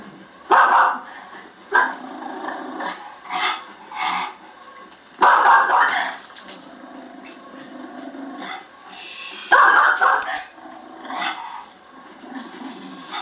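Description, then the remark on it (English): A dog with a wagging tail barks repeatedly at a man, in irregular bursts of sharp barks and yips spread across about thirteen seconds, with brief quiet gaps between the outbursts. “But you can see he's got the and stay out by his bark, you know.”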